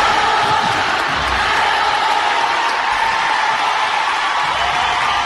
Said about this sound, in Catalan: la periodista Paloma del Río s'ha jubilat després de 37 anys de carrera i ho ha fet amb una immensa ovació del pavelló on estava fent la seva última narració.